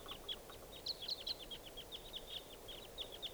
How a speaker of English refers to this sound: Both birds here, as other wild birds approach. There they go, there's two. They're joining some other wild birds around somewhere.